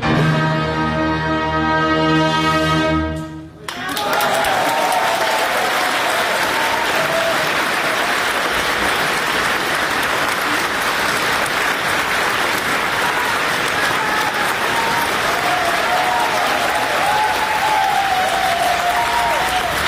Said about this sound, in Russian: 69-й фестиваль международных юных исполнителей. Там, конечно, если бы мы дали все весь этот фрагмент, где просто аплодируют, не останавливаясь, публика, да, вот давайте послушаем, как это было.